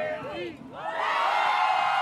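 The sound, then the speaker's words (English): A parade crowd of about 2,000 Pete Buttigieg supporters in yellow and blue, marching up 3rd Street in Des Moines, Iowa, whoops and cheers with rising and falling shouts, then swells into a loud, steady din of cheering voices mixed with ringing bells. “They have bells. They're generally making a lot of noise.”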